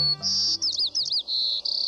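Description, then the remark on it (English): A white-crowned sparrow sings: a clear, high whistled opening followed by a quick series of slurred, warbling notes and a buzzy, trilled ending, with no voices. “This is the song of a white-crowned sparrow.”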